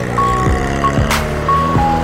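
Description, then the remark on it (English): A matatu, a privately owned minibus running a regular route, sits in traffic with its engine rumbling low while several high, steady electronic beeps sound at uneven intervals, interrupted once by a short hissing burst. No one speaks. “Matatus are privately owned and operated bus lines running regular routes, fiercely competitive”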